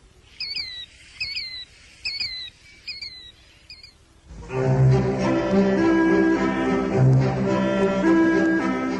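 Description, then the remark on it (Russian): A killdeer calls five times in a steady series of shrill, piercing two-note cries, clear, before music swells in and carries on to the end. “До свидания, птица крикливый зуёк.”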